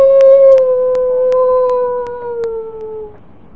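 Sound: wolf howling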